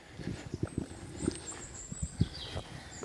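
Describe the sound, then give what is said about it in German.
Another horse approaches, its hooves thudding softly on the ground in an uneven walking rhythm, with faint high chirps or whistles drifting in the background. No one speaks. “Da kommt noch ein Pferd.”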